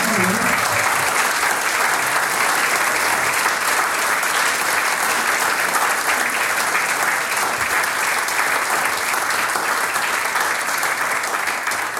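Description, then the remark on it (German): Sustained audience applause for a young harmonica player at a choir concert fills the whole stretch, a dense, steady wash of many hands clapping without pause. “Das ist ein Applaus.”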